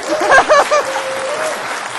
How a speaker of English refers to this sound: Okay, so one last round of applause for our profs.